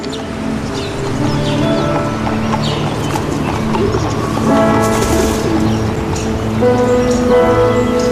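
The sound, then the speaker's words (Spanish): Horse hooves clip-clop in a steady, continuous rhythm, loud, with a dense layer of outdoor background noise and a few faint bird chirps. “Y también sonido de caballos, no como antiguamente, aunque esto suena a diligencia, pero no.”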